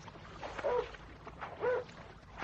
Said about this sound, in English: it is a dog. And I can hear someone rowing.